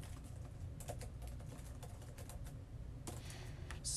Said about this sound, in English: as you hear typing in the background.